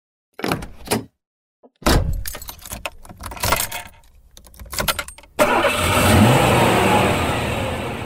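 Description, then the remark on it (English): Keys jingle and a car door thumps shut, followed by more jangling and clicks, then an engine starts and settles into a steady rumble inside the speaker's own car. “It's Friday, so it's Car Smart Day, which means we're in my car, but today you're in the back seat because I have my daughter with me in the passenger seat.”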